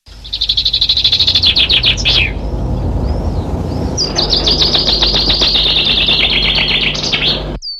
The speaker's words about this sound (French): En ce printemps précoce, qui nous fait craindre les gelées sur les floraisons des arbres fruitiers, les oiseaux rivalisent de vocalises. Parmi ces chants se distingue celui de la mésange charbonnière, un chant rythmé et cadencé.